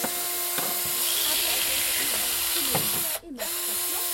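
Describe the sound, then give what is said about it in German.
A power drill fitted with a knot-hole drill bit runs steadily, its motor whine humming over a dense, hissy grinding noise as it roughly bores into a beet whose top has been cut off, to prepare it for hollowing out, with a brief stutter near the end. “Ich schneide den Deckel abschneiden und nachher mit der Bohrmaschine und einem Astlochbohrer etwa 3-mal grob reinbohren, als das meiste Mal von draussen ist.”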